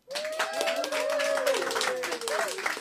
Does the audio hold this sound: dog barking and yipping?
no